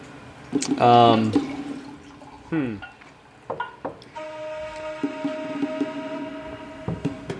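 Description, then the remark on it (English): Wine is poured into a glass: a short glugging burst, then a steady, ringing pour lasting a few seconds, after a brief vocal sound at the start. “Kezra's in the cabin just kind of pouring.”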